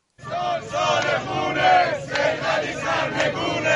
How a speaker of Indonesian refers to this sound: Ini adalah tahun pertumpahan darah, teriak para pengunjuk rasa di Teheran. Sementara pasukan militer menyapu jalan-jalan kota.